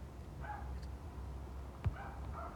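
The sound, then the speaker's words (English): Dogs bark in a few short, high-pitched bursts, faint over a low background rumble, with one brief sharp knock. “I'm not loving those motherfucking dogs sick, though.”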